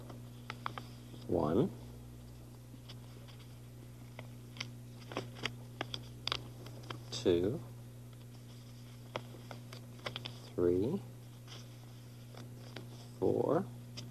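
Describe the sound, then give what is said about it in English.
Paper is creased and folded again and again, five times, to begin making a row of paper dolls, with crisp crinkles and taps over a steady low hum, and a few short voiced sounds breaking in between folds. “Somebody told me that if you fold the paper 5 times, that was a good way to begin to make a paper doll.”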